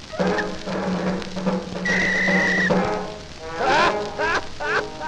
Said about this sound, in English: The jazz band train, I can hear the whistle blow.